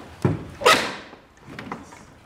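The door of the Horn House is pushed open: a low thud, then a loud rushing scrape that fades over about half a second, followed by a few softer knocks and rattles.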